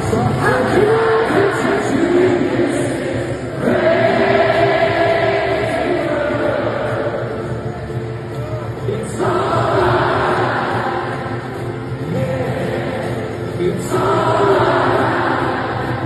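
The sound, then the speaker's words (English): A huge stadium crowd at Croke Park in Dublin sings a song together, a loud, dense wall of massed voices that holds steady and swells with each new phrase every few seconds. “Listen to this, right? Like, hear the crowd.”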